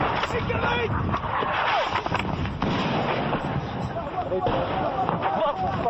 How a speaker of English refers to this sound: Three explosions, 50 yards away. So, as we were doing the interviews, incoming round just landed in this area. Some of the rebels are now starting to flee.